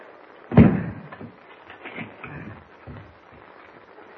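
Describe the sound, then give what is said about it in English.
The door of a shack in the woods slams shut with a heavy, loud thud, followed by several quieter clunks and scrapes as the bolt is worked into place, with no voices. “Bolt the door”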